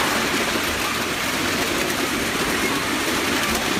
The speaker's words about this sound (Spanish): Bueno, pues es que lo que hoy son miles de latas, bañeras, electrodomésticos y cualquier tipo de chatarra metálica que hace ruido al ser arrastrada por las calles